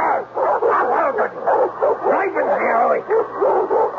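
A dog snarls and barks in a loud, almost unbroken run of rough yelps and growls lasting several seconds.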